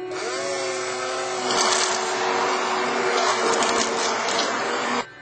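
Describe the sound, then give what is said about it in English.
A blender purees cooked lentils, running steadily for about five seconds: a loud whirring motor with a gritty churning texture that grows slightly harsher midway, then cuts off abruptly. “Then we blend it so it becomes liquefied.”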